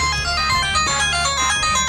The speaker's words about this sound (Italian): Mi fai squillare il telefono, dai, riprova. Aspetta, eccolo.